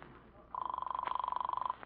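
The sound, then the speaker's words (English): A single burst of telephone ringing on the other end of a call placed from a phone booth: a steady, rapidly trilling ring tone that lasts just over a second, heard fairly clearly with no voices over it. “Hold everything until I step into this phone booth and call my sweetie.”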